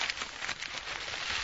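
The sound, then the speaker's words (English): A paper picture being torn up, a steady crackling, rasping rip that runs unbroken for a second or two with small bursts of texture, heard on its own without any talking. “I'm tearing that picture up.”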